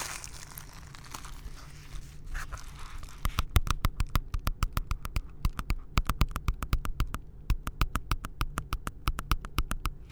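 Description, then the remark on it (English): Rapid, crisp tapping in an ASMR style, a steady stream of sharp little clicks at about four or five per second, following a few seconds of soft rustling with no voice. “So I'll be doing a little bit of tapping right now.”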